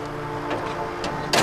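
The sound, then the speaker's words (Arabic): Over a steady idling engine hum, a door is pulled shut near the end with a sudden loud thump and rattle. “يلا سد الباب.”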